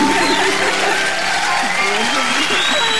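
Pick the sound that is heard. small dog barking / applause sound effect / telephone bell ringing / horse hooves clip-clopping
applause sound effect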